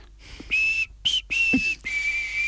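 A person whistles a simple tune in several sustained, steady high notes separated by brief pauses, clear with no talking.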